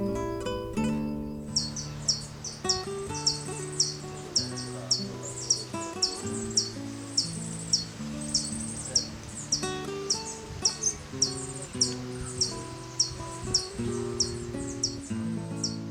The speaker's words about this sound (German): Das war der Doktorvogel.